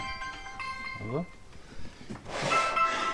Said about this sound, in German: Und plötzlich... Jetzt klingelt hier eins, so in dem Schrank drin, ne?